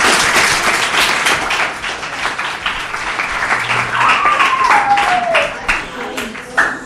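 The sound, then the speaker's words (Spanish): Loud, sustained applause from an audience of almost 60 children on a studio set, dense steady clapping for several seconds, with scattered cheering voices and a brief falling whistle partway through. “¡Un fuerte aplauso!”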